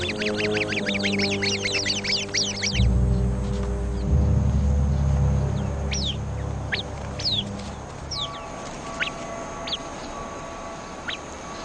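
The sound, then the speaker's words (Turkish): Harsh, rapid trilling alarm calls from the sentry Arabian babbler at a viper chatter at the start, then scattered sharp chirps and whistles continue over a low rumbling background as the group of babblers mobs the snake. “Nöbetçi Arap kuşu hemen alarm verir.”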